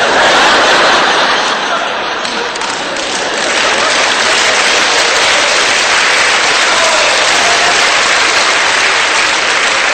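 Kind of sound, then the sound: human body sound, hands clapping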